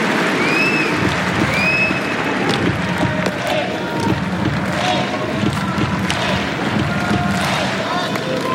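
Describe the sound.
A large crowd claps and stomps together in a repeating chant rhythm, loud and sustained throughout, with a dense roar of voices and a couple of brief whistles near the start.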